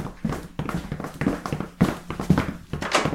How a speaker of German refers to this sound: Wir haben die Schritte doch alle gehört, oder? Ja, ich habe sie ja auch gehört. Aber hier ist niemand.